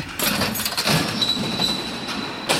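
A door creaks open with a thin, high-pitched squeal that drags on for a couple of seconds over a steady rattling rumble, ending in a brief bright clatter.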